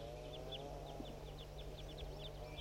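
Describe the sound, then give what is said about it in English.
A rapid series of short, high bird chirps repeats throughout, fairly soft, over a steady low hum and a faint background drone. Mostly a played bird recording (4-3), with the softer calls from wild birds. “Recordings 4-3 and wild birds as well.”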